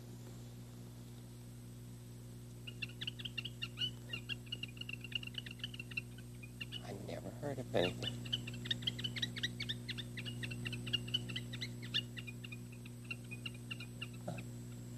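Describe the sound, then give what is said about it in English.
A toy whistle, a little cylinder with a slit along the side, twirled around on a string, chirps out rapid, warbling bird-like calls in a long, steady stream over a constant low electrical hum, with a brief low thump midway and a few words spoken. “And you twirl it around. It makes a different bird sound.”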